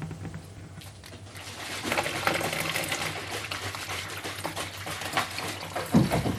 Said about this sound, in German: Jetzt hier noch mehr Wasser und gieße das jetzt einfach mal auf.